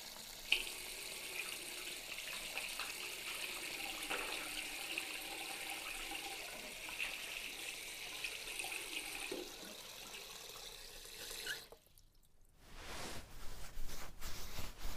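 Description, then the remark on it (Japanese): Running water pours steadily from a tap for several seconds as soap foam is rinsed off freshly washed hands, a continuous splashing rinse, then cuts off abruptly with a brief pause before a different rustling, dribbling sound follows. “では泡をきれいに洗い流して、”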